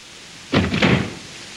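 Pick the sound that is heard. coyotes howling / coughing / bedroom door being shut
bedroom door being shut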